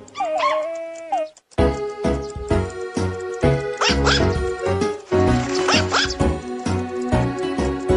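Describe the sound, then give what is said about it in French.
A dog named Chioki in the Nintendo 3DS game Nintendogs barks and yips in short bursts over a steady, beat-driven music track, with a brief whining cry near the start and no talking. “Ouais, bah on va quand même peut-être pas mettre 45 secondes de Chioki aboie non plus.”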